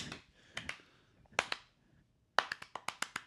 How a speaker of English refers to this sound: How come you guys aren't clapping with me?